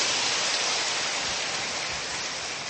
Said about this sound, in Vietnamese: Chúng ta trong một tràng pháo tay để gặp gỡ người chị em ấy.